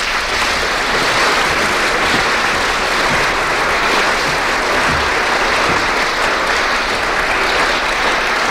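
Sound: audience ovation applause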